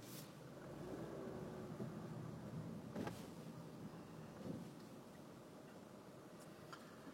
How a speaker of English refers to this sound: A lot of cars.